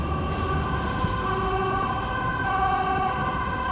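emergency vehicle siren

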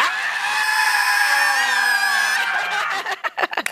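audience screaming loudly together

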